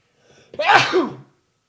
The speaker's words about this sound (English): Excuses, I sneezed.